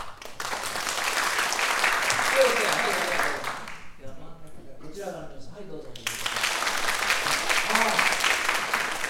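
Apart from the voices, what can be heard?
audience applause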